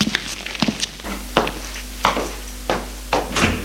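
household object, door opening and closing

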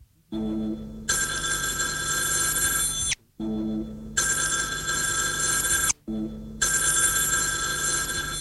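household object, telephone bell ringing

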